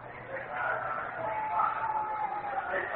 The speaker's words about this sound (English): Brings up Joe Pepitone. And listen to the crowd reaction. And Pepitone gets a big kick out of this. Doesn't bother Joe a bit.